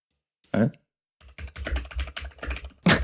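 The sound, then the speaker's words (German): Rapid typing on a computer keyboard while searching Google for how much a blue whale weighs: a quick irregular run of clicky keystrokes after a single isolated tap, ending with a louder final key press. “Es ist so geil, dieses Getippe zu hören.”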